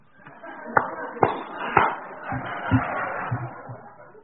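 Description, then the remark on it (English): A few scattered hand claps from an audience at an AA meeting, including visitors from out of town, three sharp, loud ones early on followed by softer, duller claps, over a steady murmur of people talking. “Don't be clapping over there.”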